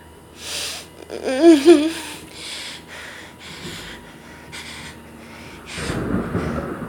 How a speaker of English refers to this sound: Ooh. The thunder's really loud.